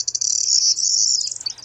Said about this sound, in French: Il est là, il y a quelques autres oiseaux qu'on entend d'ailleurs derrière.